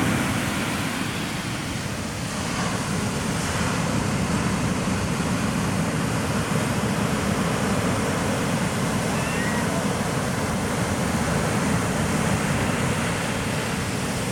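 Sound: ocean surf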